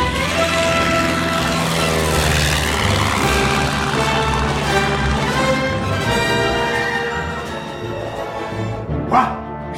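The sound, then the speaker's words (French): A loud, steady propeller-like engine drone with a deep harmonic hum, sustained, swelling slightly near the end as an airplane takes off. “Mais comment? En avion.”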